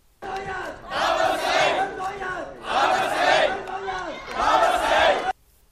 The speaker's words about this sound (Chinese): 败选的李卓人星期一凌晨3:00左右到达点票中心，先到公众席向支持者挥手，多名支持者拍手和高呼加油等的口号。